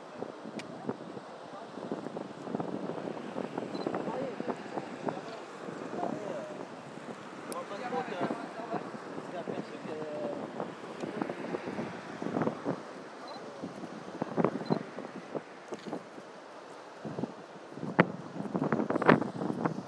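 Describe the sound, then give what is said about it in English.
River water surges through the thick piers of a bridge in a steady, dense rushing roar with uneven gusty swells that grow louder toward the end. Faint, indistinct voices sit underneath. “Water really seems to be surging through the bridge now, doesn't it?”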